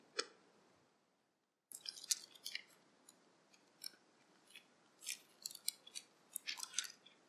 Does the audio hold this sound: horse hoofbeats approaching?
no